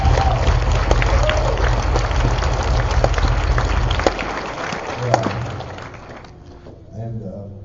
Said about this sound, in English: I just want some of you that haven't been around a while to see these people and give them a hand clap. Amen.